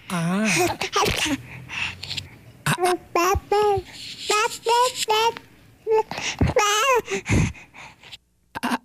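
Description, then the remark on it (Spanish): An adult voice imitates a baby's babbling as a greeting, producing a quick string of high, wobbly coos and syllables with short gasps in between, fairly loud. “Hoy trae … la voz de todos los bebés”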